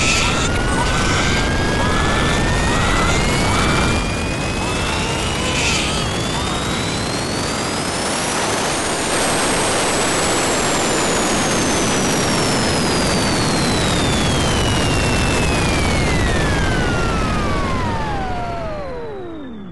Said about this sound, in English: That's why we use Kenjiko Labs JetClean Based on the same technology as its powerful junior version, the Table Sweeper, the Jet Clean uses jet engine efficiency to blow those germs to holy hell.